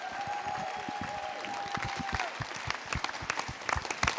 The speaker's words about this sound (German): Ganz großen Applaus.